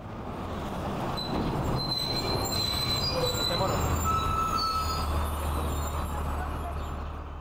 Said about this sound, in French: Pourtant, on peut toujours entendre le bruit des bus, les transports préférés des citoyens.